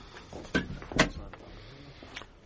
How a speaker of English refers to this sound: Be so good as to close that door, Sergeant Dutton.